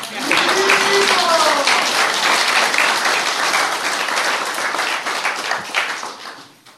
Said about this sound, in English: Now you can clap.